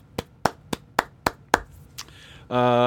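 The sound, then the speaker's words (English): About six sharp hand claps in a quick, steady rhythm, fairly loud, followed by a brief sustained tonal sound at the very end. “Please clap.”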